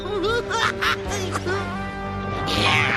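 A duck quacks several times in quick, uneven, nasal bursts over a steady sustained musical tone.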